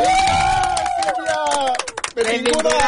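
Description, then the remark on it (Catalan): An audience bursts into loud, sustained applause mixed with cheers and whoops to welcome a guest from El Vendrell town council, dense clapping filling the whole stretch with a few rising shouts and brief dips before swelling again. “Rebem, amb un gran aplaudiment”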